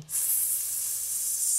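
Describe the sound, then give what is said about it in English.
A person makes a steady, continuous hissing sound with the mouth, a bright airy noise that starts abruptly and holds at an even level for over a second, with no talking. “So if you just make a hiss,”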